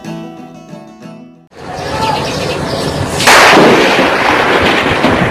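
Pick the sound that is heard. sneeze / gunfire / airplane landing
gunfire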